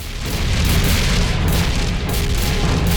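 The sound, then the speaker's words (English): Heavy, continuous booming of clone troopers' cannons firing shells at a shield, deep rumbling blasts overlapping into a sustained loud barrage with no clear gaps between shots; the shells are repelled by the shield and make no impact. “The clones' cannons roar, but the shells are repelled and make no impact on the shield.”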